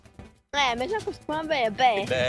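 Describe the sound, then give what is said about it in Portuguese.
A voice imitates a goat's bleat in two wavering, nasal bursts with a short pause between them, fairly loud, after a moment of faint background murmur. “O nome dele é Bé. Como é que faz o body?”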